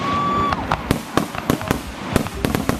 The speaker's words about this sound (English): As a family, we always go to July 4th, the fireworks in Chile. They had a really good little festival there.